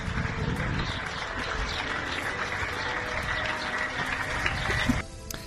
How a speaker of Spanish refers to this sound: El final del rescate terminaba con el hombre ya en la ambulancia. Todo finalizaba con los aplausos de los vecinos.